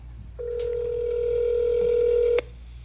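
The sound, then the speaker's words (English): A telephone tone sounds as a call is dialed: one steady, mid-pitched electronic beep held for about two seconds before cutting off abruptly. No one speaks. “So we will be dial the number.”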